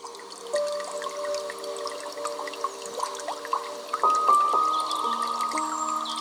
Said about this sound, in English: We've got some soft piano music in the background today. I hope you like it. Intended for massage, yoga, and meditation with water sounds. See what you think.